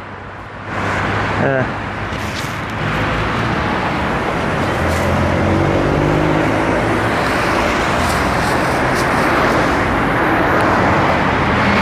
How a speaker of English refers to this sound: Ah, cigarette butt in the road. I got this one, and then cars come. So that's it.